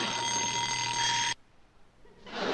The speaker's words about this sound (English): Oh, that darn alarm clock. You can stop ringing now. We're awake.